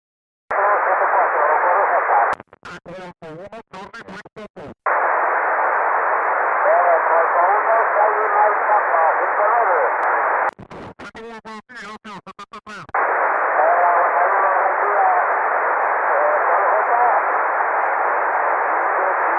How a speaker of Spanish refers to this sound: Seguimos con mi contacto con el Cobra 1 Radio Charlie Papa, activando para el diploma de Monumentos y Vestigios de España en la Iglesia de Santa María de Cobas, Mike Víctor Charlie 0474, en la provincia de La Coruña.